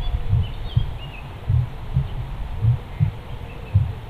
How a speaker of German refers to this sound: Lausche jetzt seinem Herzschlag und lausche seiner Stimme.